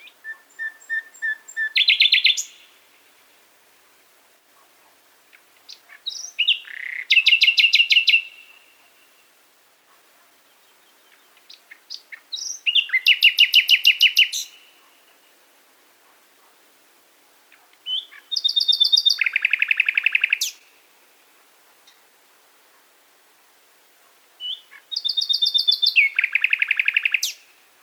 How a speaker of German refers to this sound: Die Nachtigall belebt den Friedhof mit ihrem Gesang. Er erklingt weit über die Friedhofsmauern hinaus.